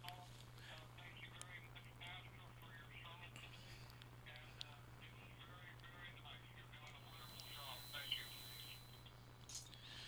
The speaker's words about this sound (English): How about that? We got a phone call. Thank you for that phone call.